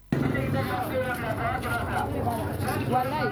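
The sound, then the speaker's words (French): Loud, continuous market bustle during a fasting period: many overlapping voices as merchants call out selling produce such as fresh tomatoes, onions and potatoes and customers haggle, while motorbike and tricycle engines rumble steadily, with no pauses in the din. “Le bruit des motos et des tricycles se mêle aux éclats de voix des marchands qui vendent leurs produits.”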